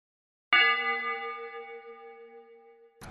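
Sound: bell chime sound effect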